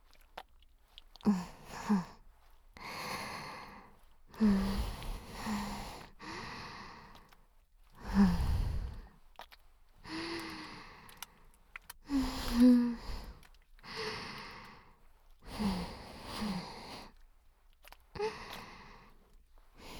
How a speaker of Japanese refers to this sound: はあ、はあ、はあ、はあ、はあ、吐息でも感じるのかよ、ド変態。